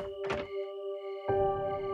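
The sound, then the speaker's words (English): A single heavy, booming knock on a home's front door by police officers at about 1 a.m., followed a moment later by a rougher rumbling thud, all over a steady droning hum with no voices. “And it was such a loud knock. Think about how police officers knock.”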